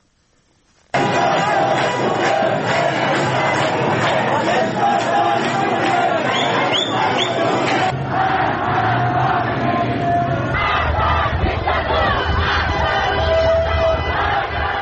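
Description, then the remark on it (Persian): A large crowd of protesters in Iran shouts and chants slogans against the Islamic Republic, loudly and continuously, many voices blending into a dense roar with rhythmic surges, starting abruptly after a second of quiet and shifting in tone midway. “در تصاویر منتشر شده از این اعتراض‌ها در شبکه‌های اجتماعی، گروه‌هایی از معترضان در نقاط مختلف در حال سر دادن شعارهایی علیه جمهوری اسلامی هستند.”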